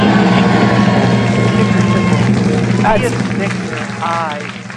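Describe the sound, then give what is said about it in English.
Loud, sustained applause from a large crowd, a dense wash of clapping with cheering voices mixed in, continuing steadily before easing off slightly toward the end. “I think we may have lost the ticker in the applause.”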